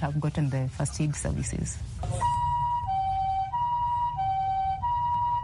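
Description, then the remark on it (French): A voice speaks briefly, then a loud ambulance siren takes over, cycling through a steady two-tone hi-lo wail over low road rumble. “Jusqu'à présent, une ambulance dessert environ 250 000 habitants dans le bidonville de Kibera.”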